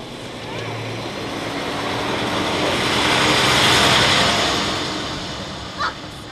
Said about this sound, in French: Il y a le camion qui repasse.